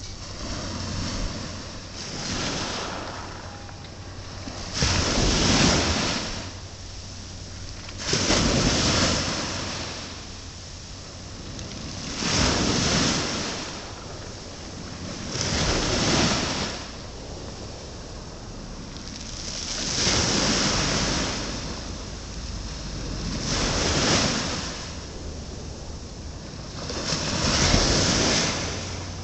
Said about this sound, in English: And the tide here is now going out, and that's why we've been gradually moving up the pier to be near to the tide. So now we're going to record the tide so you can hear, hopefully, the sea.